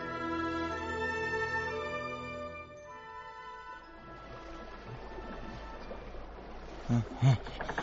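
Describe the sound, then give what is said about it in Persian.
A sustained musical tone fades into steady rushing stream water that flows continuously for the second half, with a couple of dull thumps near the end. “من که خودم را به جریان آب سپردم، امیدوارم سر از آبادی جایی در بیاورم.”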